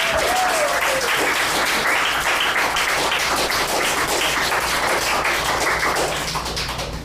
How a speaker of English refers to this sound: And I know you're probably sick of hearing the clapping, but you all deserve it.